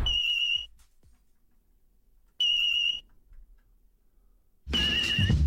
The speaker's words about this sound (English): What about this bloke? He was playing with his fire alarm, just changing the battery.